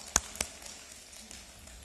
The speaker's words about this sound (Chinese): 拍拍手，好不好？拍拍手。